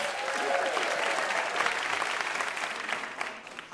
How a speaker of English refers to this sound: And one more big round of applause for our VIP, Kelly Goff.